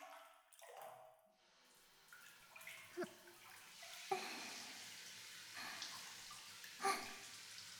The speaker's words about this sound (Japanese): シャワー温かくて気持ちいい。